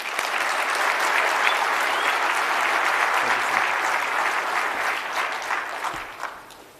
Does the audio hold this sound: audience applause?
yes